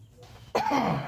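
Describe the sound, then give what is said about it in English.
A single loud, raspy cough bursts out after a brief quiet moment, trailing off into a rough, throaty rumble, with no talking. “Cough in your elbow, people.”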